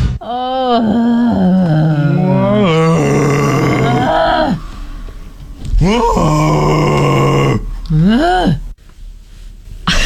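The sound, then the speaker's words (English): People imitate whale calls the way Dory speaks whale in Finding Nemo, with long, drawn-out groaning voices, sliding slowly up and down in pitch. The moaning sounds come in several stretched phrases with brief pauses between them. “Why did we just start talking like Dory speaking whale from Finding Nemo there?”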